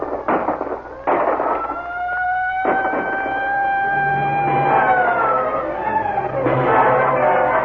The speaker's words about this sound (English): And then suddenly, a siren wails in the night. Giant searchlights snake out, attempting to penetrate the cotton wool gloom.